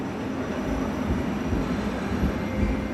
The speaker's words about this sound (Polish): Pociąg SKL, S1.